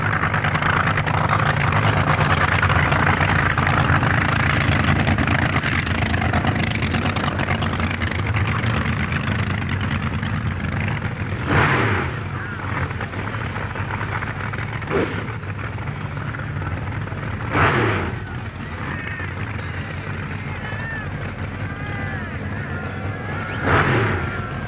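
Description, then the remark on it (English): Loud supercharged dragster engines, one a supercharged Chrysler engine just breaking into life, rumble and snarl continuously at a drag-racing start line in England, with sharp throttle blips bursting out every few seconds over the heavy idle. No voices are heard. “He trickles slowly back behind the start line, again turns through 180 degrees, and comes up to wait for his opponent, whose supercharged Chrysler engine now breaks into life.”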